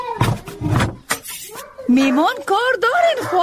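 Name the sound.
dog barking and whimpering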